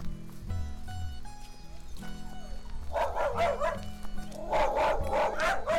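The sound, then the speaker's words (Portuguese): A dog barks repeatedly in the second half, a string of sharp, loud barks in two quick bursts, preceded by a quieter stretch of low background tones. “Vem, entra, o cachorro não é bravo não.”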